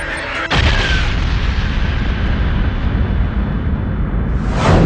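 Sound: explosion boom sound effect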